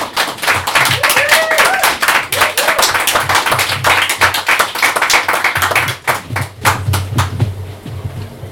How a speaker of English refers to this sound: Good applause, please.